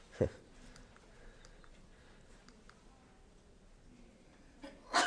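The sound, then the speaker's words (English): Faint ticking and shuffling, then a single loud, abrupt sneeze right at the end, preceded by a smaller sharp burst near the start. “Bless you.”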